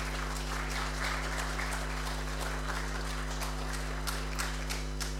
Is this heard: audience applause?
yes